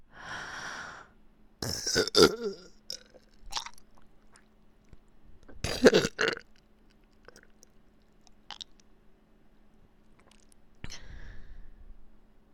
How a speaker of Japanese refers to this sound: お姉さんのゲップ浴びながらおちんちん握ってもらって嬉しいでしょ。